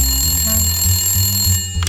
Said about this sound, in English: There's the phone!